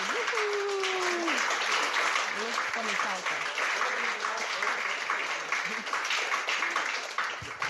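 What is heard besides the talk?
audience applause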